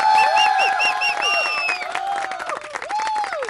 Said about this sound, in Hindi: जोरदार तालियां भाई.